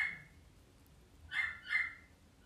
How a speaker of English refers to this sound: If you can hear the dog bark, and it barks a lot now.